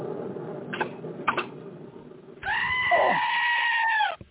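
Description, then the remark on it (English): A goat lets out one long, loud, wavering bleat lasting nearly two seconds, after a couple of brief soft knocks. “Goat, please.”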